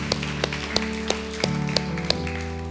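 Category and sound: crowd, audience applauding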